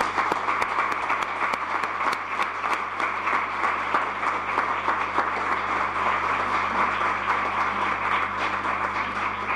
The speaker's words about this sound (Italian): Un applauso, direi.